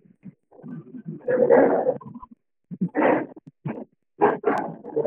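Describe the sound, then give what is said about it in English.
A dog barks and yelps in a string of short, irregular bursts, with a longer growling stretch at the start; moderately loud, with no one talking. “I hear dogs barking.”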